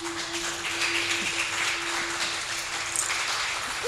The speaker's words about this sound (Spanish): Un aplauso, por favor.